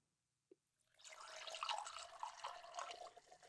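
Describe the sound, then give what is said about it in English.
A small clink, then Jefferson's Reserve single-barrel, very old Kentucky straight bourbon whiskey (100 proof) pours steadily into a glass, a gurgling stream that keeps going for a couple of seconds with no one speaking. “Right, so this is some grown folks stuff, but I'm gonna go ahead and crack a little bit of this open. So and pour me just a little.”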